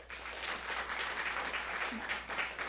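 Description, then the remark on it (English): An audience at a WNYC program claps steadily, college students applauding to show they left a hometown to go to college, a dense, even patter of many hands that holds at a fairly constant level without swelling or dying away. “How many of you lived outside the greater metropolitan area among those of you who just applauded?”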